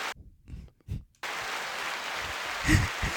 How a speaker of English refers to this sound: That was so good that I think the crowd went wild.